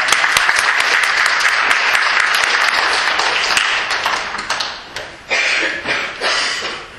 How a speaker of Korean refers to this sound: 할렐루야. 우리 주님 영광 받으신 줄 믿습니다. 주님께 영광의 박수.